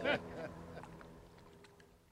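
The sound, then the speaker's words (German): A motorboat engine drones steadily at low volume, its hum continuing throughout after a brief voice-like burst at the start. “Ja, also, jetzt geht das Motorboot auch schon wieder.”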